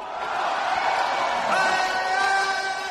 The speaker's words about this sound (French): C'est la même euphorie tous les soirs, depuis le début des Jeux. Des milliers de fans venus acclamer les athlètes.